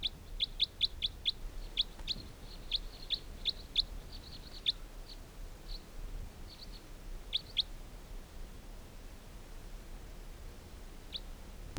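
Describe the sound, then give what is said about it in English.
High, thin chirps from birds caught in a net, 15 birds, come in quick clustered bursts, then spread out into sparser single peeps over a low steady background hiss; no talking. “There continue to be 15 birds in the net.”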